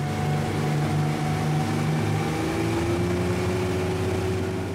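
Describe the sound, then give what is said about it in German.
A boat engine drones steadily out on the sea off Luganville, Vanuatu, in the South Pacific, a low rumbling hum with a faint whine above it, holding constant throughout with no voices. “Man muss schon ins Boot steigen und ein paar Minuten aufs Meer hinaussteuern, um die größte Hafenanlage im Südpazifik in voller Länge zu sehen.”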